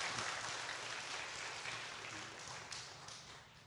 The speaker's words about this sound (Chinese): 我们用掌声来欢迎他。感谢。